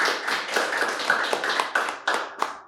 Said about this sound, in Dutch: Mag ik een groot applaus voor deze twee acteurs van vandaag?